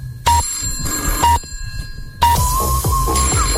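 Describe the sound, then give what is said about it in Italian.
A telephone bell rings loudly: a short burst, a brief second ring, then a longer sustained metallic trill that runs to the end, with no talking. “Ma perché io devo rispondere a sto cazzo di telefono?”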